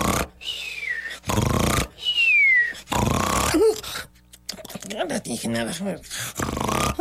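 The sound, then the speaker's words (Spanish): A voice mimics loud snoring: about three harsh, rasping snores, each followed by a thin falling whistle, loud, before someone starts talking. “Así que se echó a la sombra del pirul, cerró los ojos, cruzó las patas y al cabo de unos momentos roncaba sonoramente.”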